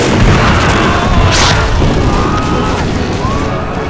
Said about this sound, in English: But Price thought he was facing a division of the Butternut Boys, for Jamie had sent men back down the line to beg, borrow, and steal as many cannon as they could. Jamie started a cannonade that sent Price's men ducking for cover.